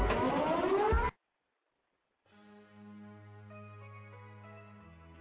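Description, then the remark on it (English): A raggedy phone rings in the background, its ringtone a steady electronic melody of sustained, shifting tones at moderate volume, coming in after a short loud burst of harsh noise and a second of silence. “You hear that raggedy phone in the background.”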